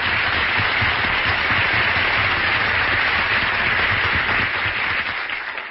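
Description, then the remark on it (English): A crowd applauds Mel Blanc steadily and loudly for several seconds, a dense wash of many hands clapping that begins to thin out and fade in the final moment. No one speaks over it. “Give him a big hand.”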